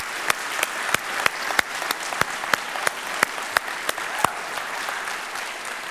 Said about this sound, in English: Let's applaud him. Let's applaud him. Yeah, there you go.